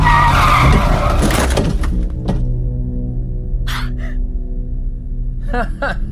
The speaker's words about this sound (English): Heavy on the brakes there, fella.